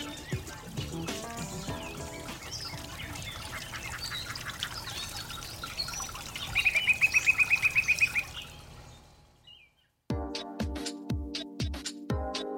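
Busy bird calls with duck-like quacks fill the first eight seconds, including a rapid high trill of pulses, before fading to a brief silence and then a rhythmic musical passage.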